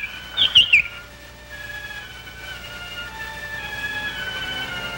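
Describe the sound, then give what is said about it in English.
A small bird in a birdcage lets out a quick cluster of three or four bright, high chirps right at the start, then falls quiet over a faint, steady background hum. No one speaks. “All right, genie, disguised as a bird.”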